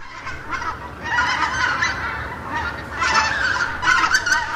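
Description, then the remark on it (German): A dense chorus of common cranes calling at the ponds by the village of Linum in Brandenburg, Germany, where some 60,000 rest on migration south from Scandinavia; overlapping trumpeting and honking cries in a continuous, loud clamour that swells in bursts, with no voices. “Sie laufen nicht einfach, sie schreiten vornehm, aber eigentlich sind sie Flieger, Langstreckenflieger, Kraniche.”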